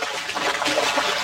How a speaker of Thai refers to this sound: เสียงปลาตะเกียกตะกายร้องขอชีวิตตอนติดแห